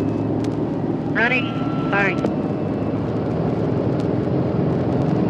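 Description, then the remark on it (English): The number 4 propeller engine of a bomber aircraft is started and drones loudly and steadily, a deep rumbling roar with two brief rising whines cutting through early on. The plane can fly 10,000 miles, drop 10,000 pounds of bombs and reach 45,000 feet. “This is the power of the plane that can fly 10,000 miles and drop 10,000 pounds of bomb halfway and reach an altitude of 45,000 feet, 8.5 miles in the air.”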